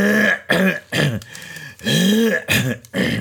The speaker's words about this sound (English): I don't know what's going on with my voice and my throat and everything. Y'all, I'm clearing my throat so much more than I usually do.